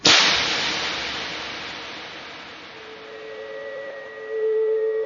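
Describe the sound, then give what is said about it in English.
Heels clicking together, a recurring sound in a broadcast: a single sharp, loud click with a long hissing decay, fading into a faint sustained tone that swells slightly near the end. No voices. “This sound is the sound of clicking heels.”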